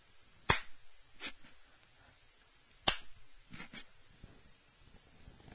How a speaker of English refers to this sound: No, you're not getting anybody to join you in the fucking slow clap.